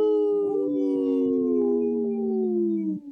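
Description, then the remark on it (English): Three long, overlapping howls sound together as a steady, loud chorus, their mid-pitched tones sliding slowly downward over about three seconds before fading abruptly. No one speaks. “Yeah, I could hear three howls.”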